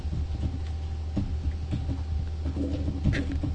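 A DVD drive hums with a steady, low droning tone that holds unchanged throughout, with a few faint clicks and rustles scattered over it and no voices.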